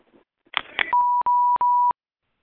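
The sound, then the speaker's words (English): Two quick button clicks as star 6 is pressed on a phone keypad, then a steady electronic phone tone that beeps in three short back-to-back bursts over about a second, clear with no talking. “Okay, let me press star 6.”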